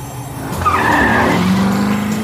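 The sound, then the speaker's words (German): A cartoonish car, the PJ Masks' Cat-Car (Katzenflitzer) searching the city for Luna Girl, zooms along with a steady engine hum, then its tires let out a long, bright squealing skid that rises and holds for over a second. “Kurze Zeit später sitzen die Pyjama-Helden im Katzenflitzer und suchen die Stadt nach Luna Girl ab.”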